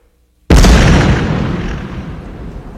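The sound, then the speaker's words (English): A sudden, loud explosive boom bursts in after a brief silence, then rumbles on with a long, heavy, roaring decay: an artillery explosion in front of a crowd, filling the stands with smoke. “Some kind of artillery explosion has destroyed Lily Riverman and her steed”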